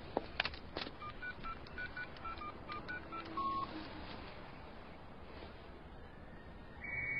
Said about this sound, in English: I can hear your cell phone ringing!